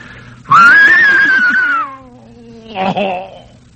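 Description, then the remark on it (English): Mel Blanc imitates an English horse whinny: a long, loud, high quavering cry that slides downward in pitch, then a short, rougher snort-like burst after a brief pause. “So I didn't say anything, and I waited till it came to that spot, and I did an English horse whinny that sounded like this.”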